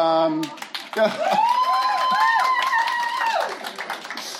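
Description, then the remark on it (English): An audience breaks into steady applause, many hands clapping in a dense, continuous patter, with a rising and falling whoop or whistle riding over the clapping. “You know, nobody clapped for me.”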